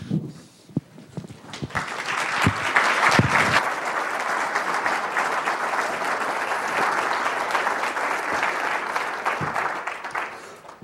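An audience applauds as a speaker is introduced, starting with a few scattered claps and swelling into steady, dense clapping that holds at an even level until the end.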